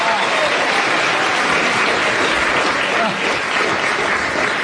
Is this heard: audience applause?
yes